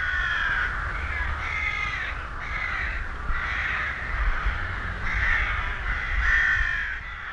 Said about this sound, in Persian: صدای چند تا پرنده بود، نامشان چی بود؟ آها، قاز بود. قاز نه صدرا جان، زاغ.